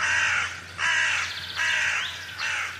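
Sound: crows cawing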